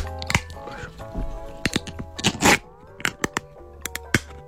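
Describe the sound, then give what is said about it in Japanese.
A tin of Hotei yuzu-kosho-flavoured yakitori being opened: sharp metallic cracks and clicks, then a short rasping tear as the lid peels back, followed by a few more snaps over a low background hum. “この時間何、この開ける時のやつ。”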